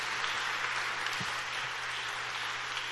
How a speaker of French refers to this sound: On applaudit Seigneur plus fort au nom de Jésus-Christ.